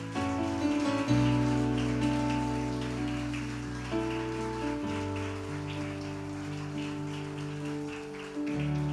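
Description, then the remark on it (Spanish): A crowd claps steadily and continuously for several seconds as an offering of applause to the Lord this morning, a dense patter of many hands over sustained, swelling keyboard chords that shift every few seconds. No one speaks. “Podemos darle una ofrenda de palmas al Señor en esta mañana.”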